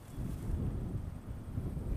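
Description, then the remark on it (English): Steady wind blows across coastal mud flats at low tide in Papanui Inlet on the Otago Peninsula near Dunedin, mid-morning at about 15 degrees, a low rumbling buffet on the microphone that swells and eases continuously with no other distinct sounds and no voices. “It's mid-morning and it's pretty windy out here.”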